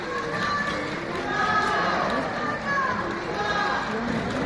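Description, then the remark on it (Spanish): A large crowd at the door of Capitanía General in Cartagena applauds steadily for several seconds at a visitor's arrival, a dense wash of clapping mixed with overlapping cheers and shouting voices, loud throughout. “A su llegada aquí era recibido en la puerta de Capitanía General, donde se han escuchado numerosos aplausos.”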